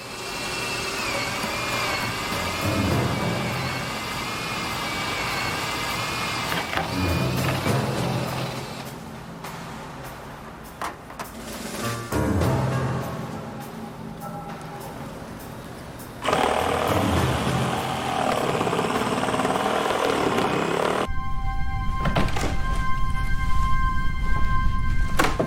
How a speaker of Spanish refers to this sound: Llevaba una sierra eléctrica y un taladro inalámbrico de primera línea con motores especiales que reducían el ruido. Parecía saber exactamente dónde cortar en el techo.